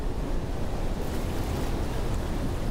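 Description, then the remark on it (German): Heavy, 6-metre-high waves in a huge storm roar without a break, a dense, low rumbling wash of surf mixed with wind noise that holds steady and loud throughout, with no voices. “Riesen Wellen, 6 Meter hohe Wellen kommen und es, gell, das ist wahrscheinlich noch herzig, wenn ihr da hört.”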